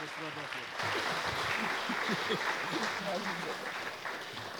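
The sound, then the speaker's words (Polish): Steady applause from an audience for an award winner and the nominees, a dense even wash of clapping that swells slightly after the first second and holds through, with some murmuring voices mixed underneath. “Wielkie brawa dla laureatki, dla nominowanych.”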